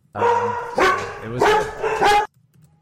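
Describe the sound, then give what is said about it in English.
Pet dogs bark excitedly in a loud, rapid run of high, yelping barks lasting about two seconds, then fall abruptly quiet. “The dogs, your dogs got excited.”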